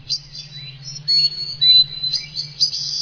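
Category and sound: bird, birds singing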